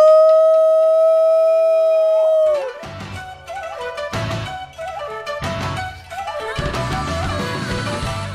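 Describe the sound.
A person imitates a howl with a loud, steady, sustained wail lasting a couple of seconds that dips and trails off, then gives way to choppy, broken bursts of sound.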